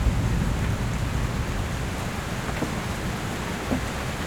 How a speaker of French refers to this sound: le clapotis de la pluie sur les tuiles.